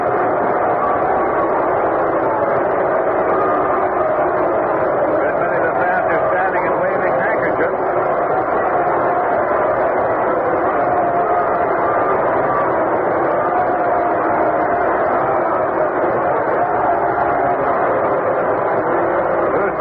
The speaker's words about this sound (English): Here comes Pete Rose to the plate. And Pete Rose is being roundly booed by the crowd here.